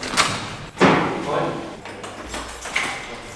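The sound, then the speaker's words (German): A heavy metal prison cell door in a remand prison in Koblenz, Germany, is slammed shut by a prison officer on a Monday morning early shift, with a loud, reverberant clang, followed by softer metallic clatter and rattling, with a voice speaking briefly in the background. “Die Justizvollzugsbeamtin wird an diesem Tag noch viele Türen auf- und zuschließen.”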